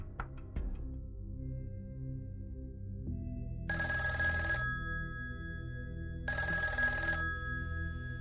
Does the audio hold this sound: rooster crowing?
no